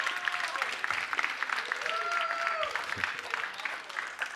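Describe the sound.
A crowd applauds steadily for about four seconds, dense overlapping claps with a few faint voices and cheers rising through the noise.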